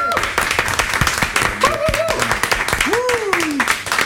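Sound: applause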